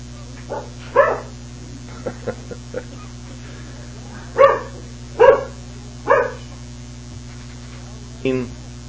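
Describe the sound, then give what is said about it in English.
A dog named Sport barks several times in short, irregular bursts, a few sharp yaps spaced out over a steady electrical hum, with softer small sounds in between. “You're a bad dog, Sport.”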